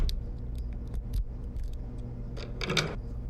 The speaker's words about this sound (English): I had to pick the lock. You had your door locked.